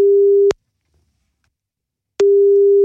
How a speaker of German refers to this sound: Also, wenn es bimmelt, ans Telefon.